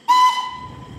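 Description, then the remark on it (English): A steam train's whistle gives one loud blast that starts abruptly and holds a steady, shrill tone, then fades slightly while still sounding, as a branch-line train huffs and puffs into a station. No voices are heard. “It was just as well I didn't linger, as the branch train had come huffing and puffing into the station, and I had to cross the footbridge in some haste to get to the far platform in time.”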